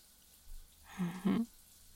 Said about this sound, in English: Allowing ourselves to have a long, steamy shower together.